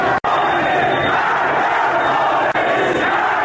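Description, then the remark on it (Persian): A large protest crowd in Iran chants slogans against the government and the Islamic Republic, a loud, dense wall of many voices that continues steadily, broken only by two brief, abrupt gaps. “شعار این اعتراضات در ابتدا دولت را خطاب قرار می‌داد، اما رفته رفته سر پیکان شعارهای اعتراضی به سمت کلیت حکومت جمهوری اسلامی نشانه رفتند.”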